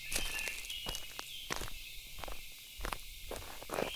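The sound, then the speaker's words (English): Footsteps of people walking crunch through dry leaves in a slow, uneven rhythm on a hot, cloudless, sunny afternoon, each step a brief crackling burst over a steady high hiss of insects in the background. “I can also hear the leaves crunching under our feet.”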